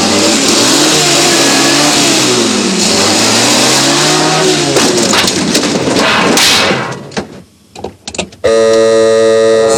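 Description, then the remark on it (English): A car engine revs loudly and rises in pitch as a car careers into a yard, knocking over a pile of junk, then cuts off abruptly with a few clattering knocks before a brief, steady tone starts. “The doctor's car careers into the yard, knocking over a pile of junk.”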